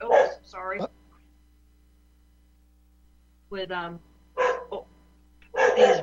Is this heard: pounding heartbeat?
no